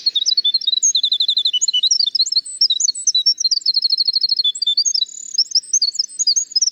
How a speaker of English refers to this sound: Speaking of music, I've been hearing a song of winter wrens in the spring woods.